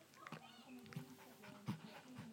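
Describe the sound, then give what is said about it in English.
A poodle pants in quick, rhythmic breaths, with a few sharper gasps standing out. A voice murmurs faintly underneath. “I thought poodles are meant to be in the 102nd most intelligent breed.”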